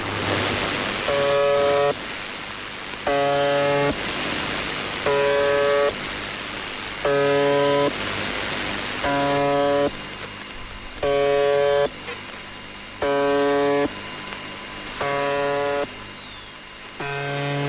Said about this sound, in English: Some of these have been broadcast, like for example, the buzzer has been started in as early as 1976. Let's listen to the buzzer real fast.